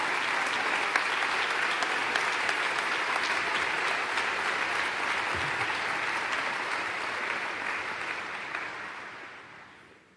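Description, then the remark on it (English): Sustained audience applause at the Buffalo Convention Center for Mrs. Mary Wilson and members of the Ralph C. Wilson Foundation, a dense steady wash of many hands clapping at a loud level throughout, gradually tapering off in the final couple of seconds. “Wilson Foundation another great big round of applause.”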